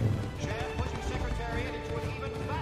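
Horse hooves clip-clop steadily while a horse whinnies with rising and falling calls, continuous throughout, with a busy, slightly noisy background.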